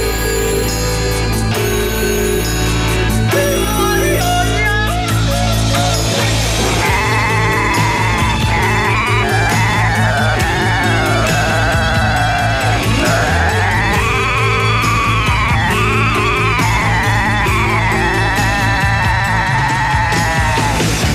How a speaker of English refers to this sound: Those goats, they need a break.